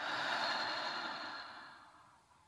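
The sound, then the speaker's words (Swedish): A single long, slow deep breath rushes out softly through the mouth, an airy exhale that gradually fades away, with no talking. “Ta ett par djupa andetag, först in genom näsan och ut genom munnen.”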